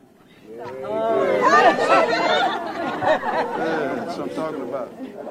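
A crowd of overlapping voices chatters steadily outside the Wyandotte County Courthouse in Kansas City, Kansas, gathering around a 41-year-old man; a dense, lively babble that swells after the first half-second and holds loud throughout, with no single voice standing out.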